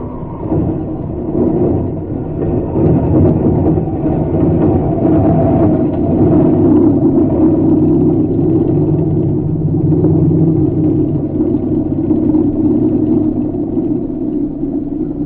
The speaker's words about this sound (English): Sotaro's car stopped in front of the barn. At about the same time, a plane came down on the field nearby.